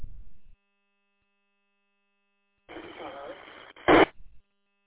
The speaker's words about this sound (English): Station calling, you just barely made the repeater. Could hear some audio, but that was about it.